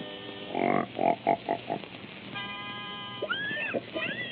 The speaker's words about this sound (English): Hey, wait till you hear my singing pig. First, I gotta get them in pitch.